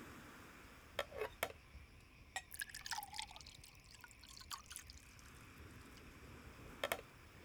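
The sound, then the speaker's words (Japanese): Orange juice being poured into a glass: a short, quiet burst of gurgling liquid, framed by a few sharp clinks of the bottle against glassware, with no one talking. “オレンジジュース。 私も飲もうかな。”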